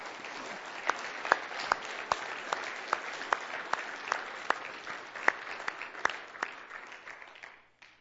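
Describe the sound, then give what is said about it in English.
Sustained audience applause for the Kids Club staff, a dense crackle of many hands clapping with sharper individual claps popping out, steady in volume for several seconds before fading out at the end. “Thank you to you, and maybe all the rest of us can just give you a round of applause, how you have ministered to others.”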